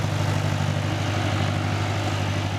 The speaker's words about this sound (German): Ein schwerer Traktor parkt direkt hinterm Nordseedeich auf einem sattgrünen Feld. Als er langsam anfährt, strahlt das Mädchen am Lenkrad.